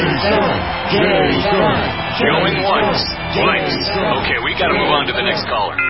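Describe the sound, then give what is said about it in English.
A dense crowd of many voices shouting and cheering together, calling out a name, loud and sustained without pause for several seconds, with overlapping calls rising and falling in a continuous roar. “Cheering crowds surround you, calling out your name.”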